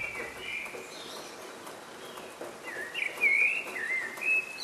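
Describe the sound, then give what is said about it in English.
Several birds sing over a soft outdoor hiss, with bright whistled phrases and chirps that swell louder toward the end, a layered early-morning chorus with no voices. “Birds sing out like this in the early hours of the morning to let everyone know that they've made it through the night.”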